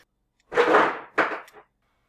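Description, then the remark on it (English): An ice machine drops ice in two loud, rattling bursts, a longer clatter followed by a shorter one, with no voices. “Ice machine? And table. Yes.”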